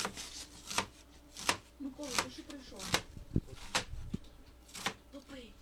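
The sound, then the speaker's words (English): A knife chops herbs on a cutting board with about eight sharp knocks at a loose, uneven rhythm, as volunteers dice herbs for vareniki, Ukrainian dumplings, while soft voices and bustle murmur in the background. “Volunteers peel and mash potatoes, dice herbs, and saute onions that will go into the savory dish.”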